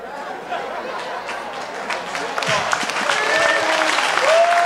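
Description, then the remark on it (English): A crowd breaks into steady applause, dense overlapping hand claps that swell louder toward the end, with murmuring voices and a few whoops or calls rising above the clapping. “She over here cracking up like, how in the world did you get a hand clap for that?”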